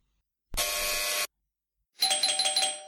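A bell rings twice in quick succession: first a steady, unbroken electric ring as a bell push is pressed, then after a short pause a different, rapid trilling ring answering it. Both are loud, with no voices.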